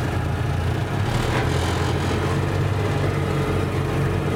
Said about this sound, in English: So here we are. Here we are. In the vehicle. Oh, we're off. We're off. Come on then.